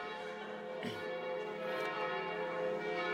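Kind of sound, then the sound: signal or alarm, church bells ringing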